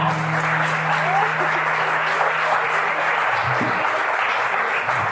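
An audience applauding steadily for about five seconds, a dense, even wash of many hands clapping at once, with a low hum running underneath for the first few seconds.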